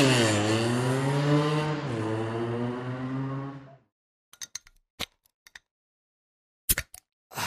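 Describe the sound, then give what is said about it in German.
A cold drink being opened: a few sharp clicks and snaps in quick bursts, following a loud, sustained buzzing tone that cuts off. No one speaks. “Man hat es gehört, und wenn sich einer schelmisch freut, dann ist das oft einfach nur das Kaltgetränk, das geöffnet wird.”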